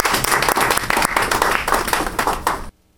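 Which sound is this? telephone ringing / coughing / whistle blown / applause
applause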